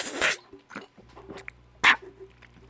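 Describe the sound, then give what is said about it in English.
Mouth sounds of someone sipping water: a noisy slurp at the start, a few soft wet clicks and swallows, then another sharp sip, over a faint steady hum. “And I don't even drink water. Actually, let me take a sip.”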